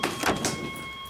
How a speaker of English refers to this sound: It won't open because it's a security door.